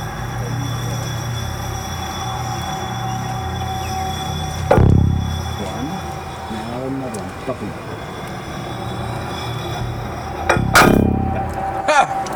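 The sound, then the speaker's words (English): During geological core drilling in Wisconsin, the inner core barrel slides down the drill pipe and locks into place above the drill bit, heard as two sharp metallic clunks several seconds apart, each ringing briefly over a steady low mechanical rumble. “Now we turn off the engine and listen for it to click into place.”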